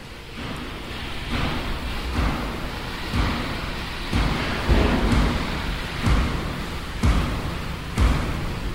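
Steady heavy rain hisses continuously, broken by low rumbles of thunder and periodic deep thuds roughly every second. No voices are present.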